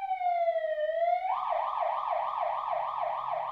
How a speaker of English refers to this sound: Bianca Bosker, a journalist, recently looked at the sounds of sirens, modern-day sirens, and found that they reached up to 123 decibels at about that same distance.